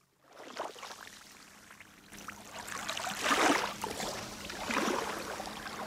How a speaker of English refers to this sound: I'm looking at water, which is cobalt turquoise, and you can hear it lapping, nice, gentle little waves, and you can see way, way out, and it's, the water is crystal clear.